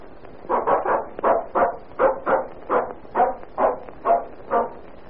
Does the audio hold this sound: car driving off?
no